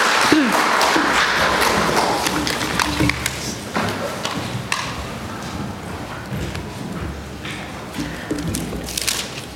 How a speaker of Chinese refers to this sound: 啊，我们就用热烈的掌声来欢迎郭牧师。